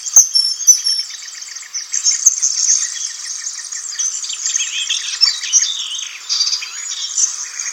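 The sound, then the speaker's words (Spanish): A greenish-brown melodious warbler, hidden in tangled thickets, chatters continuously, a rapid run of scratchy, twittering notes with brief pauses, clear and fairly loud with no other sounds around it. “Oculto en las marañas parlotea un zarcero entre verdoso y pardo.”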